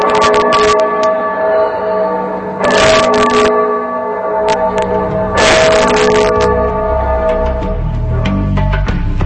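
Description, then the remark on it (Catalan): Church bells toll slowly in a mournful death knell at dawn, loud and resonant, with a few heavy strikes and long humming overtones ringing on between them; a low rumble rises near the end. “Al cap d'una estona va arribar la llum de l'alba i es van sentir com les campanes tocaven a morts.”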